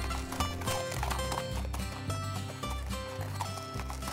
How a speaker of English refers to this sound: That gave Orb just enough time to run to his horse, or actually Pete's horse, and ride away.